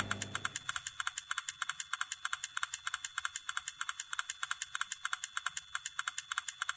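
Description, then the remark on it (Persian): Steady, rapid keyboard typing sound played by a chat app while a contact types a message: a dense run of crisp, evenly spaced clicks, a few per second, continuing without pause. The sound is clear, with no voices. “ببینیم وقتی دارید می نویسه اینجا صدای تایپش هم میاد، البته اگه اسکریپت نصب کرده باشین.”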